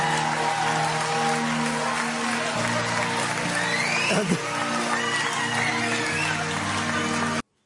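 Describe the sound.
A crowd breaks into sustained, dense applause, a steady crackle of many hands clapping at once with scattered cheers and voices mixed in, holding loud and even before cutting off.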